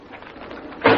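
A heavy metal body drawer at the city morgue slides out with a low, steady rolling rumble that ends in a sudden louder clunk as it stops. No one speaks.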